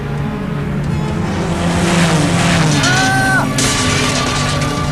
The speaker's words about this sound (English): Daniel crept out of the school dismayed, but he was noticed, and as he cycled home that night, he was pursued by the Cobras on their motorcycles and forced off the road.